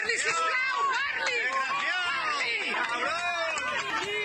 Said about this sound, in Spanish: Después se desplazaba a los hospitales Sagrat Cor y Sant Pau, donde se encuentran los agentes heridos. En este último era recibido así, entre abucheos.